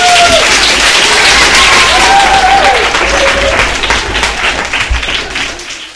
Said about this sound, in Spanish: Pues otro fuerte aplauso.